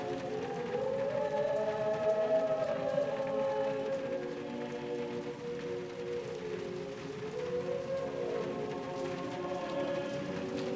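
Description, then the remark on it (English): Steady heavy rain from a raging storm pours continuously, a dense hiss with drumming patter, while a low wavering wind-like moan rises and falls beneath it. No voices are heard. “He's forgotten all about the storm raging outside as they stand before the confessional.”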